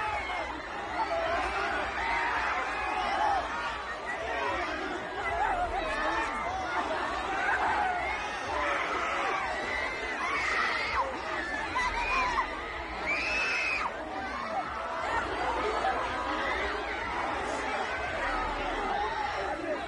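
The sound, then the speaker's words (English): A dense crowd in Seoul, South Korea, during a crowd-crush incident roars continuously with overlapping chatter and occasional screams rising above the mass of voices, loud and unbroken throughout, no single speaker standing out. “After a crowd-crushing incident, there was just too much people.”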